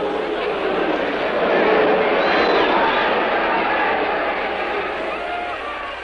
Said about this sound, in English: And with the crowd's derision echoing in his ears, Charlie Porter took his final count.